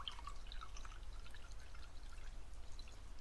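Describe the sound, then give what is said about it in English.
Water pours steadily out of a jar, a continuous splashing stream with bright, bubbly gurgles scattered through it, fairly quiet and with no talking over it. “Here, Let's get rid of the water first.”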